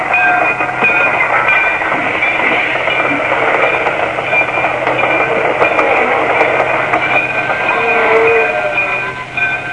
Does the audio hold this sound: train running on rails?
yes